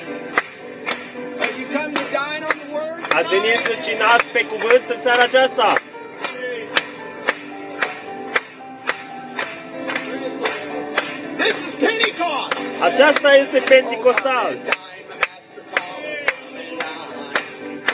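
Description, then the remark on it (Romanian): Steady rhythmic hand clapping by an audience in the evening, loud and evenly spaced about twice a second, runs the whole length beneath a group singing a Romanian hymn, like a crowd keeping time together. “Hai să o bătem de palme acum în seara aceasta.”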